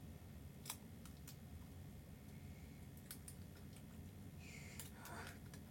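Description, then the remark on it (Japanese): Cellophane tape being stuck down over underwear fabric to fix something in place: a few quiet, sharp crinkly clicks scattered through, then a short rasping tear-and-press near the end, over a low steady background hum. “ちょっとじゃあセロテープで固定します、パンツの上からね。”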